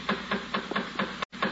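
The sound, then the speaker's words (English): A quick, steady series of about seven knocks on a door, evenly spaced and moderately loud, with a low background hum and no voices. “The door.”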